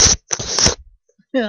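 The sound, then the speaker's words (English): A kitten rubs and nuzzles against the microphone, making two loud, scratchy bursts of rustling, the second longer. A short quiet gap follows, then a voice begins speaking. “That was my kitten. He was smooching the mic.”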